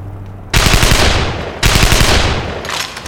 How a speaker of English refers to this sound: What was that gunshot we heard?